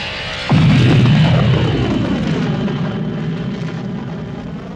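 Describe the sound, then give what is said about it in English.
The Dragonfly spaceship's engines winding up as its launch sequence starts: after a brief moment, a loud throbbing roar kicks in, with whining tones that bend and shift in pitch over a deep, steady rumble that slowly eases off. “The ship's engines were already winding up.”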